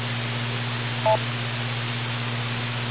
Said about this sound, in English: Give a little bit of a delay until you hear the beep. Start off with your name and go right ahead with your question or comment.